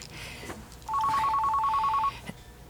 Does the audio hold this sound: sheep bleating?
no